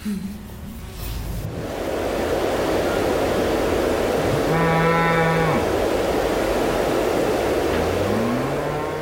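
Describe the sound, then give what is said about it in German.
Cows in a cowshed, with a drawn-out, droning moo midway and a shorter rising low call near the end, over a steady, loud wash of barn noise. “Während wir gemeinsam in der Scheune sitzen, erkundet seine Tochter bereits den Kuhstall.”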